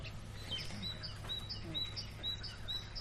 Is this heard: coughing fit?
no